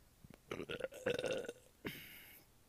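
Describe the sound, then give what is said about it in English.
A long, gurgling belch rumbles for about a second, followed by a brief breathy exhale and a soft hiss as it trails off. “It was just a bitch burp.”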